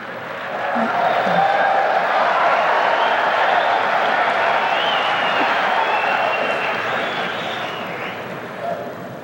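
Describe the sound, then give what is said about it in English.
A crowd of men cheers and claps in a dense, continuous roar that swells in the first second, holds steady and loud for several seconds, then eases off slightly near the end. “Sounded like the men that were cheering on that one.”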